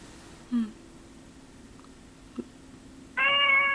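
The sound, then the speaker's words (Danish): A male house cat meows: a short low call early on, then a longer, louder, drawn-out meow at the end, with quiet background noise in between and no talking. “Kan du høre min kat?”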